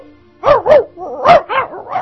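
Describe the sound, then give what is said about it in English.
A person imitates a dog barking up close, giving five loud, punchy woofs: two in quick succession, then three more in an uneven run, with nothing else in the background. “Well, first of all, let's do close-up Barking Dog.”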